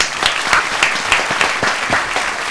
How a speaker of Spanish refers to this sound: Un aplauso para él.